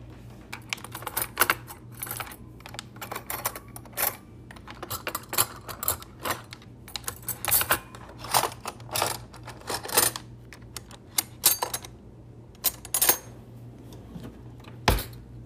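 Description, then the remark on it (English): A fridge is opened and items inside are shuffled around, making a long run of irregular light clicks and clatters over a steady low hum, ending with one sharp thump as the door closes. “This next sound is my fridge opening and stuff moving around in it and closing, and it just makes me think of like eating and cooking.”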